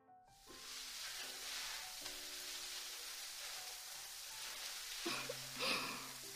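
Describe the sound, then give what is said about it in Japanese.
Fine foam bubbles fizz and pop on the scalp during scalp care, a dense, continuous crackle like a soft sizzle, holding steady throughout with a slightly louder rustling burst near the end. No one speaks. “大きな泡ではなく、細かく弾ける泡にて、頭皮をケアいたしますね。”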